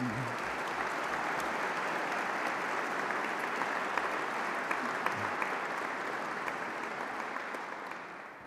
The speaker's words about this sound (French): Je prie encore les lauréats de bien vouloir se lever et je vous prie de les applaudir.